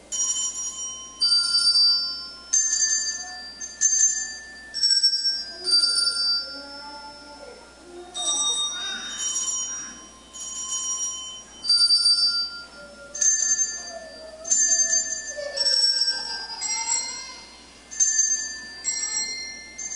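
Several handbells played by a group of kids ring together in a steady, overlapping pattern, bright high tones struck again and again with lingering rings, fairly loud and continuous throughout.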